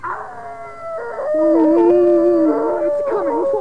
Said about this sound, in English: Aunt Maud, Harold and I stood imprisoned in Winey Kimone's dressing room while the beast of Puddlethorpe Hall howled and scratched at the door.